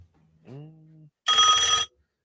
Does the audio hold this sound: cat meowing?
no